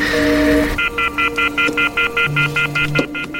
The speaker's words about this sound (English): Great. He's got the phone off the hook now.